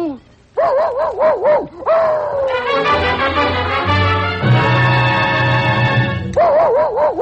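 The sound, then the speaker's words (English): An actor, playing Jerry the Dog in the Columbia Workshop radio production It Shouldn't Happen to a Man, imitates a dog with a rapid series of high, whining barks and yelps. A swelling passage of sustained music takes over, then the yapping returns at the end. “Jerry the Dog was played by …”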